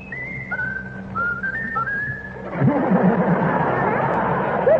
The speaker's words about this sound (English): Now whistle my country tis of thee, Raffles. Whistle my country tis of thee.